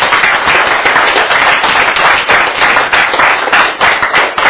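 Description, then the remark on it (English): A crowd applauds steadily and loudly, many hands clapping in a dense, continuous wash of sharp claps that holds its level for several seconds without any voices. “Now, I think what you're applauding and what I applaud is the wisdom to know the difference of getting the help right away, asking for the help”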